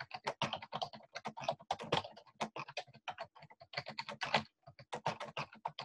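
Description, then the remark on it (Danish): Rapid, uneven keystrokes clatter on a computer keyboard for several seconds as someone types an internal name for a new email, fairly loud, with brief pauses between bursts of typing and no voices. “Hvis nu jeg skriver her optagelsen fra i går.”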